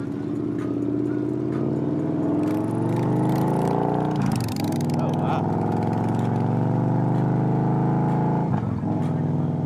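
A white 2014 Victory Cross Country motorcycle engine rumbles loudly and continuously while riding, its deep drone shifting gradually in pitch as the throttle changes, with occasional bursts of wind noise.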